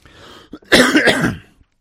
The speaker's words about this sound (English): Heal me, Lord. Take care of my cough and get the last bit of these germs out of my body and restore me to full health.